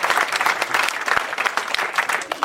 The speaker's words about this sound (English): Matt Besser, everybody. Hey, everybody. Yeah, you gotta keep the applause going.